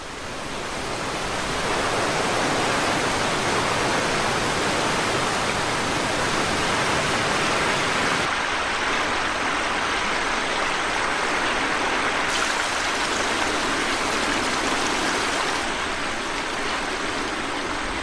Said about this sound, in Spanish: Las lluvias forman parte de una tormenta que ha tenido lugar en la montaña y que ha hecho crecer el río 3 metros, arrasando todo a su paso.